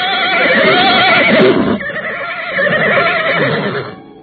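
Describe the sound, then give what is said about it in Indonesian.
A horse neighs loudly in two long, quavering whinnies separated by a brief pause, with the second trailing off at the end, as a rider leaps down from it. “Guru pusat pendidikan calon tanda itu segera melompat dari kuda, diikuti Rakai Warak dan Rakai Kembar.”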